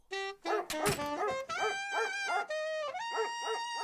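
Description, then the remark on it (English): A dog barks repeatedly in a steady, almost rhythmic pattern, fairly loud, mixed with a sustained saxophone melody playing over the barks. No one speaks. “The sax, not the barking.”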